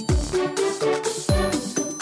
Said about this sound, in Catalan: I havies de marcar el número de telèfon i feia... un soroll superespecial. A mi m'encantava aquell soroll del fax.